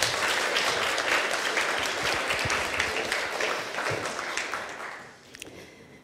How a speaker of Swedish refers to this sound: Ska vi ge dem en applåd till?